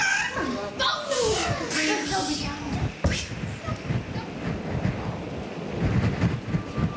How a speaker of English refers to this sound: And now the rain is getting really quite cold. The power and the energy that emanates from the storm, the wind, the shrieking, blowing on the street.